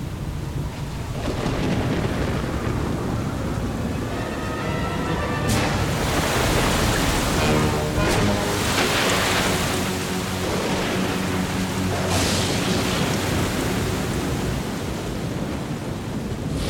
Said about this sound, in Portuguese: começou a cair uma chuvarada. Mas não era uma chuvarada dessas que caem agora. Você já viu uma cachoeira? Pois era igualzinho a uma cachoeira, caindo, caindo, que não acabava mais.